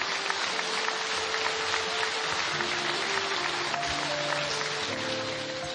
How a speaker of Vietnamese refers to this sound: Xin mọi người cho tràng pháo tay.